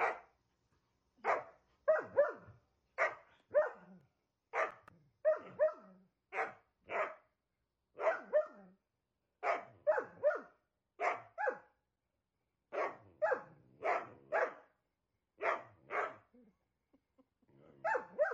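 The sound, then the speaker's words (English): Dogs bark loudly in a long, choppy run of sharp barks, some overlapping in quick clusters, with short pauses between bursts and no talking. “Coming up next, dogs love barking.”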